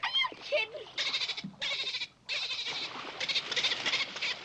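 The dolphin Flipper chatters in rapid, high-pitched squeaks and clicks, coming in several loud bursts separated by brief pauses.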